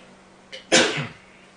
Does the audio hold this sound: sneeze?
yes